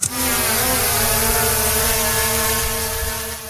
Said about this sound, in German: Die Staubsaugerdrohne hob ab und schwebte schon nach wenigen Sekunden ein paar Meter über dem Apfelbaum.